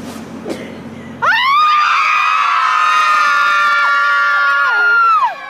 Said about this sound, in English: Here's a CNN report about moms who come together in a parking lot every once in a while to scream. Not exactly sure why, but let's watch and find out.